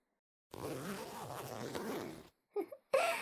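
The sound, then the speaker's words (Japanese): A long, steady zipper on the back of a dress being pulled up to the top, a rasping ratchet sound lasting nearly two seconds, followed by a couple of brief soft rustles of fabric. “ちょっとお兄さん、最後後ろのチャック一番上まで上げてくれます？”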